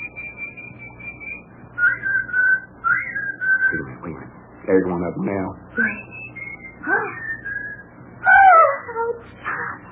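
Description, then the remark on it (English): A whistled two-tone bird call of an Australian two-tone weaver bird, clear steady notes stepping between two pitches, repeated several times, with brief bursts of voice and other sounds breaking in between the whistles. “Oh, yeah, that's the Australian two-tone weaver bird.”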